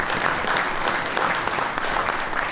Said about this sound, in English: But if you'd please be kind enough to give the panel a round of applause.